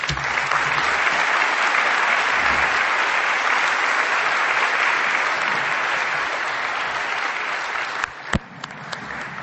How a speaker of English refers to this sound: Let's thank all three of our presenters with another round of applause.